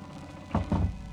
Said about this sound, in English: That's right. Close the door. Close it tight. Go on, close it.